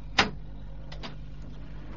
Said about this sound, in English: First you turn the computer on like this. Then you turn on the monitor. Then you turn on the printer.